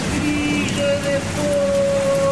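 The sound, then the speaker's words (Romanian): A steady, dense downpour of heavy rain with big, thick drops hisses continuously and fairly loudly, with faint sustained tones drifting underneath and no one speaking. “dintr-o dată, a început să cadă o ploaie cu picături mari și dese.”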